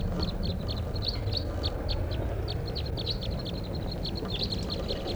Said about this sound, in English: Recording at 5:05 p.m. and there's a flock of wild crossbills here, about 8 birds up in the top of a tall lodgepole right above camp.